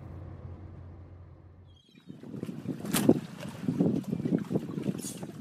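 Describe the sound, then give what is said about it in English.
Low steady car engine hum gives way to open outdoor ambience at a marina in Kennebunkport: gusty wind buffeting the microphone, with scattered knocks and creaks from many boats, mostly sailboats, and no one talking. “When we got out of the car, there were tons of boats, mostly sailboats, but that wasn't what we were headed toward.”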